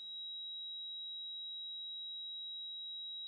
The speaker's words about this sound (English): I'd say one of the most common is people will say, I have a high-pitched ringing.